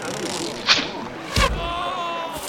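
A quick swish cuts through the air, followed moments later by a louder whooshing strike with a dull thud: an arrow loosed at a man and striking him in the stomach.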